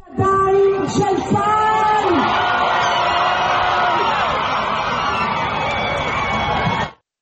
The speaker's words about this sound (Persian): با اعلام خبر تحویل 7 نفر از گروگان‌ها به صلیب سرخ، خانواده‌ها در میدان گروگان‌های تل‌آویو فریاد شادی سر دادند.